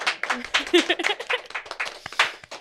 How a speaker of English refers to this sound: This is the Most High Show. Now you guys can clap.